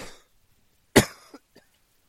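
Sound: coughing spell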